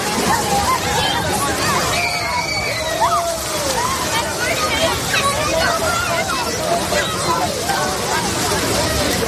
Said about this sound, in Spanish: ¿Esto a qué te suena? ¿Eh? Este sonido, el mar, los niños, que si los castillos, que si jugando a las palas, la otra vez las olas.